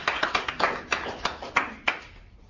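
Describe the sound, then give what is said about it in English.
A small group of children claps in a classroom for a couple of seconds, the irregular slaps thinning out toward the end, with no talking. “Just give them a big applause.”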